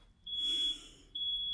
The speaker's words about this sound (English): Oh, of course, and there's the truck backing up.